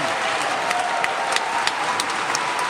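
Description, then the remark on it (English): Steady applause from a live audience at a classical music performance, a dense wash of many hands clapping at an even, fairly loud level, with a few sharper individual claps popping out above the crowd. “So you're going to hear me clapping here. You can tell it's live.”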